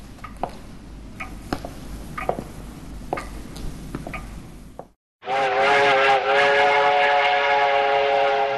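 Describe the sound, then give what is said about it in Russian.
Rhythmic clattering and clicks give way, after a brief pause, to a loud, sustained steam train whistle with a rich, chord-like tone that blares steadily to the end. “Все совершенно меняется, когда в середине 19 века была построена Николаевская железная дорога, соединившая обе столицы империи.”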